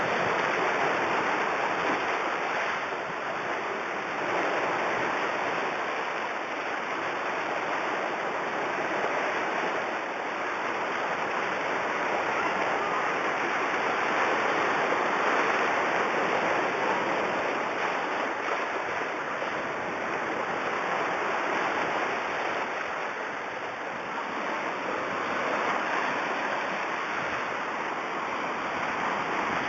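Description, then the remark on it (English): Waves crash steadily against the rocky shore of Lake Superior just north of Duluth, a loud, continuous roar of churning water with gentle surges, and no voices, on a cold day as the sun breaks through the fog around 3:30. “You can hear the waves crashing over the rocks here.”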